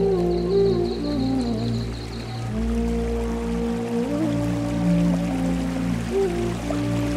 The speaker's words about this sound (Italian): Questo sentiero ti porta fino ad una piccola cascata che produce un'immensa nebbia di gocce. Sdraiati sulla sabbia davanti alla cascata e senti questa nebbia